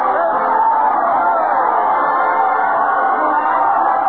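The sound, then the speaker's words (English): A dense, continuous roar of a large crowd cheering and chattering at Fred Allen's parade to the Old Town Hall, loud, with overlapping shouts and whoops blending into a steady wash of festive noise. “Let's join the happy crowd, folks. Everybody's going.”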